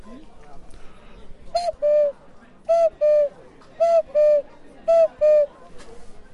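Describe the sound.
A clay whistle from a pottery workshop is blown to imitate a cuckoo call four times, each a pair of clear hollow tones stepping down, evenly spaced over a faint background murmur.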